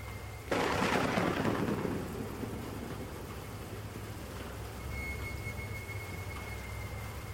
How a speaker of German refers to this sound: Hat dich etwas aufgeweckt? Nur der Regen. Und der Wind.